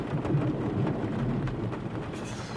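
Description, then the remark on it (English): A steady thunderstorm: a low, continuous rumble of thunder rolls beneath a dense wash of rain, loud throughout, with no voices. “The storm!”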